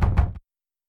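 A quick pair of solid knocks on a door, fairly loud, followed by silence. No voices are present.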